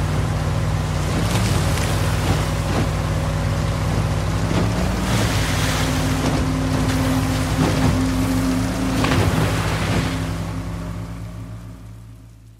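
A boat engine drones steadily as the boat crosses a raging, stormy sea towards an island, heavy waves crashing and slapping against the hull in repeated bursts, rough water surging all around before the noise fades out at the end. No one speaks.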